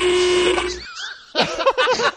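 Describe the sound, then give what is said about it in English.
A bicycle horn gives one steady, buzzy honk lasting under a second. After a brief pause comes a quick run of warbling, voice-like honking sounds, fairly loud. “That's probably what the horn did sound like, actually, Bill.”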